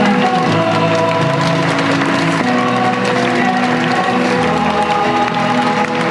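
Steady, loud audience applause as students of the BORG school walk onto the stage at a memorial for victims of a school shooting, a dense wash of clapping with some crowd noise and sustained musical tones running underneath.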